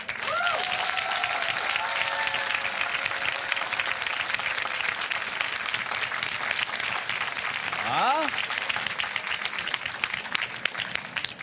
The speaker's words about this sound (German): So, und wenn Sie sich kurz Gedanken gemacht haben, dann bitte ich jetzt um Ihren Applaus